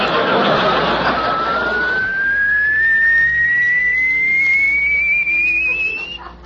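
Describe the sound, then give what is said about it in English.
A hydraulic car lift raises a car on a rack: a steady mechanical whine slowly climbs in pitch for several seconds over a broad hiss, then fades out at the end. No one speaks. “Well, you got the car up too high”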